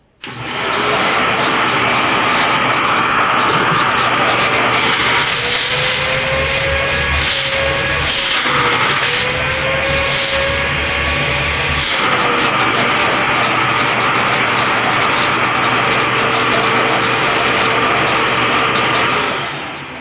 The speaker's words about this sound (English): And this vacuum uses a Dommel motor. So I'll go ahead and fire this up, and you can hear what it sounds like. So again, this is the DrainVac Atomic Powerbomb central vacuum unit. It's not the quietest thing, but it's not the loudest either.